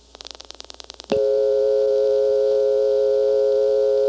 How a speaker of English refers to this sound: On the 0, when the dial comes back to rest, there's that hum that you only hear when the second dial tone in Plainfield has been triggered by an answer, and the party hung up. So I come back and there's that hum.